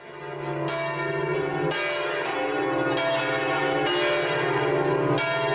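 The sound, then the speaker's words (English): Bells of a medieval cathedral on the Île de la Cité in Paris chime loudly and continuously, overlapping strikes ringing out every second or so with rich, sustained harmonic tones blending into a dense, resonant peal. “Lots and lots of bells, as you can hear.”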